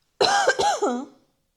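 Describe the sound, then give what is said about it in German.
A short fit of fairly loud coughing: three or four quick, throaty hacks run together over about a second, with no talking around them. “Ich muss einmal husten.”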